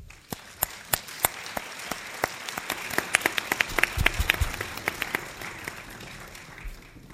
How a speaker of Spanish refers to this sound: Os pido a todos un aplauso para ellos.